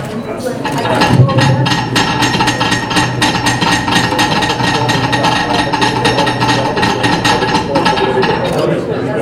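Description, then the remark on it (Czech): Ceremonial hammers tap on a foundation stone at a ceremony marking the start of construction, a dense run of sharp overlapping clinks from several hands at once, continuing steadily for about eight seconds over a murmur of voices. “Takže pokud jste připraveni všichni, tak můžeme poklepat.”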